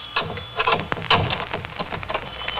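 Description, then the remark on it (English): A door is being unlocked: keys jingle and scrape, with a few sharp metallic clicks and rattles from the lock over a couple of seconds. No one speaks. “Until I unlock my door.”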